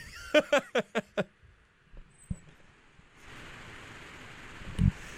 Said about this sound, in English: Yeah, it's a little loud in here. The fan in there went from wind tunnel to tropical tsunami. F5 tornado. F5 tornado.